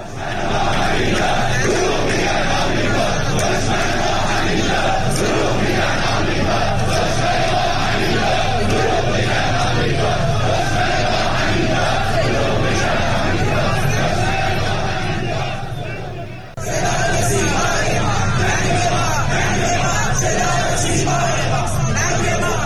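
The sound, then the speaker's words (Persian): A large protest crowd in the streets of Ahvaz and Bushehr, Iran, chants slogans against the Islamic Republic and its officials during mourning, in loud, continuous, rhythmic shouts, voices overlapping in a dense roar with a brief dip near the end before the chanting resumes. “اهواز در استان خوزستان و در مرکز استان بوشهر به خیابان‌ها آمدند و علاوه بر عزاداری شعارهایی علیه جمهوری اسلامی و مقامهایش سر دادند.”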